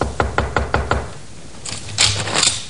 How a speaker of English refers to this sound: he stumbled to the door of Joy's room and knocked